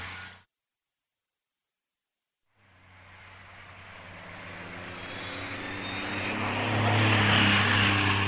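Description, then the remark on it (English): After a short silence, heavy truck engines rumble to life and grow steadily louder, a deep droning roar with a thin rising whine as the trucks pull away together. “Okay, so the trucks are all underway”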